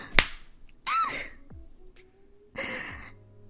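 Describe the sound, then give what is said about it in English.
A single sharp slap cracks near the start, followed by two soft breathy gasps or exhales spaced a second or so apart, with no talking. “You slapped my character.”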